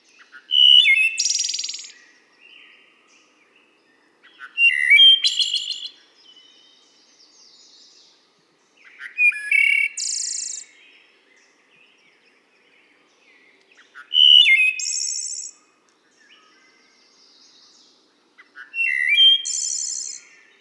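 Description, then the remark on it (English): A wood thrush sings five clear, flute-like phrases, each a burst of rising, layered notes separated by pauses of a few seconds, distinct with a quiet background and no talking. “It's the song of the wood thrush.”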